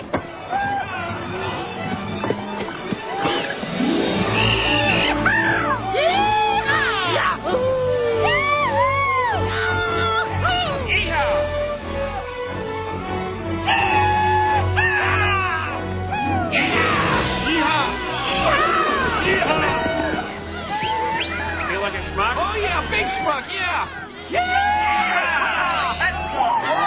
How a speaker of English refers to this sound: Before they took the cattle out, those cowboys waved their hats in the air and yelled, yeehaw!